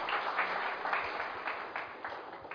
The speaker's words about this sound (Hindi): Mumbai, very good, Mumbai correct answer, ताली तो बजाइए भाई।